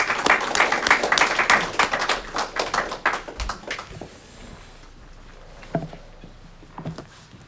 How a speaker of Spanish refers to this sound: Bueno, pues les pido un aplauso para darle la bienvenida al pastor